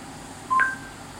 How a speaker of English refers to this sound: Okay, and I heard the associating beeps on the air conditioner as well.